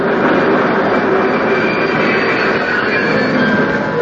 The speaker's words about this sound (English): The train's coming.